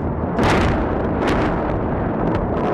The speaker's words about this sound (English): guess when that green light goes off and you realize this is actually happening, as we crossed across the border, as there were illuminations in the sky, as there was quite a bit of rat-a-tat-tat associated with what sounds like fireworks, actually.